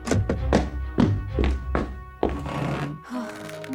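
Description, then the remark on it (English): Several quick thumps, then a heavier thud and a brief shuffling rustle as a boy who has run into school plops down into the seat at his desk. No one speaks. “CJ ran as fast as he could to the school, bolted inside the doors, and plopped down at his desk.”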